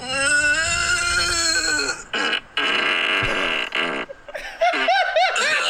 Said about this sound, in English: Yeah, I like it. I like the moans of pain. Very good. Very good. Give that a 7 out of 10.